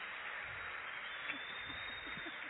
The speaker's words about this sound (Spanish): Que la última vez que lo aplaudieron así fue cuando se perdió en la playa.